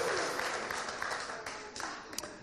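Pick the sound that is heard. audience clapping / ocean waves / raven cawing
audience clapping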